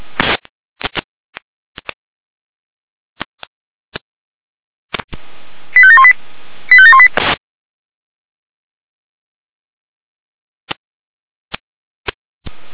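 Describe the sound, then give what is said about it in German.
A radio pager (Funkmeldeempfänger) alarm tone sequence from JUH Florian Weimar: two short bursts of stepped electronic tones in quick succession, framed by scattered sharp clicks of radio static, with no one speaking. “Jener mit Alarmierung.”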